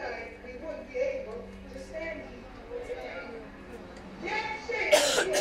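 A single sharp, loud sneeze bursts out near the end, after several seconds of quiet background chatter from people.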